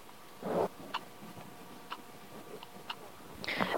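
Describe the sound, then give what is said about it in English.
A small quartz clock in a wooden box, standing on a bureau, ticks steadily, one sharp, light tick each second, with a couple of brief rustling bumps around it. “It's kind of relatively new, and it's got lots of things on it, lots of bits and pieces, some ornaments, pictures, a rather nice little clock. Little quartz movement thing.”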